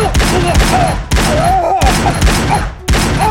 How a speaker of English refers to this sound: John Rourke fired both Detonix pistols.